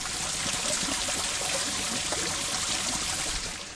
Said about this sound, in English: Sorry, I think that must be my old Save Our Sounds brain on there. I just rather like that sound of water flowing down, perhaps the only working drain anywhere in the vicinity.